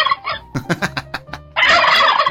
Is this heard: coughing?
no